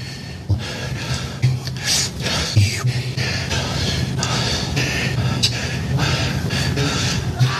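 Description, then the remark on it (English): A compilation of micro clips of the President of the United States sniffing and inhaling: a rapid string of sniffs and sharp inhalations, breathy hissing bursts repeating irregularly over several seconds, fairly loud and steady, with no talking. “These are all the micro clips of him sniffing and inhaling.”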